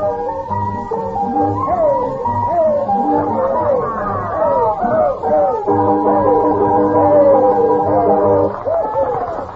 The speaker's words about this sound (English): They had a noisy clientele at the shanty.